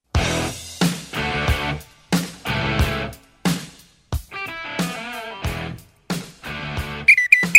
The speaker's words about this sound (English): Because it's become a popular part of the show, the Little Red Whistle has made its return. I can't say it's back in black, but it's back in red.